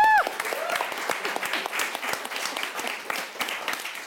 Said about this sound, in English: A round of applause